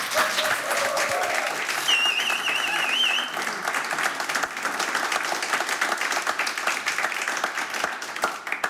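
Steady, dense audience applause fills the whole stretch, a broad crackle of many hands clapping at even loudness, with a few brief whistles or cheers rising above it early on.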